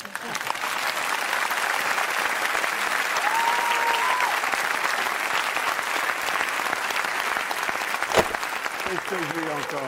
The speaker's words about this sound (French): Je veux remercier de tous vos applaudissements.